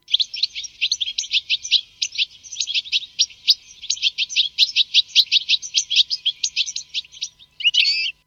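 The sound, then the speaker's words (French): Goldfinch fledglings, ready to leave or just out of the nest, beg to be fed by the adults with a rapid, nonstop stream of high, buzzy chirps, loud and insistent for about seven seconds, ending in a short harsher burst. No one speaks. “ils ont des cris qu'ils émettent en attendant d'être nourris et puis de façon à stimuler les adultes pour les nourrir.”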